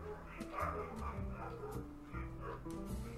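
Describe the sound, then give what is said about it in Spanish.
Several dogs bark and yip in quick, overlapping bursts, loud, with some whimpering mixed in and a steady hum underneath. “Paro el programa y les voy a dar un escobazo a los perros, o sigo.”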